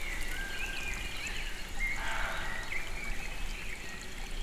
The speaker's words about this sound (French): Un ruisseau lointain. Le son de la nature.